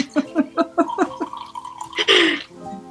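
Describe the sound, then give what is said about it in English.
Wine glugs out of a bottle in a quick, steady run of about six gurgling pulses, rising slightly in pitch, followed by a brief louder splashy rush. “Let me cue up some more wine.”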